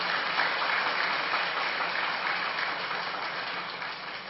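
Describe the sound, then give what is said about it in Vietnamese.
Sustained applause from a large crowd of young people at Giác Ngộ pagoda, welcoming a Buddhist monk: dense and steady clapping for several seconds, gradually easing slightly toward the end with no one speaking. “Toàn thể các bạn trẻ, chúng ta hãy dâng cao một tràng pháo tay thật lớn”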